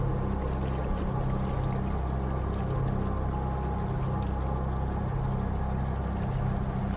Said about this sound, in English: The small coal-powered fishing boat chugs up to the pier where hospital tents are being set up by soldiers in the fields outside a small shattered village.